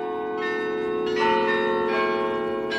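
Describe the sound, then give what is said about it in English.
The bells of the South Church in Amsterdam, Netherlands, ring out in a rich, sustained peal over the city's old Jewish district, their overlapping tones humming and shimmering as new strikes swell in, loud and resonant with no voices present. “The bells of Amsterdam's South Church echo off the pavement of the city's old Jewish district.”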